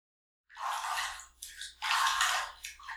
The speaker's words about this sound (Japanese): 荷物を置いたら、まずはシャワーを浴びようか。